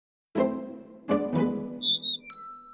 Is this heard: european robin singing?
yes